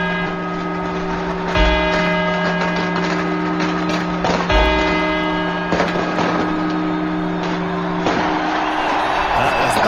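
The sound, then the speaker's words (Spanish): Clock tower quarter-hour chimes: the four quarters struck before the twelve midnight strokes on New Year's Eve, 1989 into 1990. Four resonant bell strikes are spaced a few seconds apart, each leaving long, overlapping ringing overtones above a steady background rumble. “Estos son los cuatro cuartos. Notarán ustedes que el sonido es totalmente diferente, los cuartos a las campanadas.”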